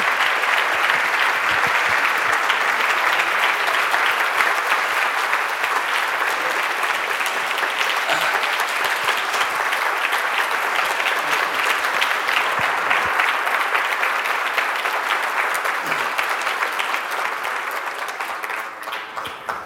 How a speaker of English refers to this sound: I already enjoy basking in your applause, I have to say.